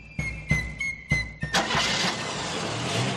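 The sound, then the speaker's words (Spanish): A car engine cranks in four quick rhythmic pulses with a thin whine, then catches and settles into a steady, loud running roar. No voices. “Coche.”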